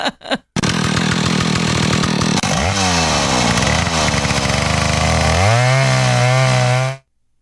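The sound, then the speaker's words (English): A woman's voice imitates a chainsaw with a loud, raspy buzz that revs and sputters, its pitch dipping and climbing before holding a steady high drone for about seven seconds. “And then that was a chainsaw.”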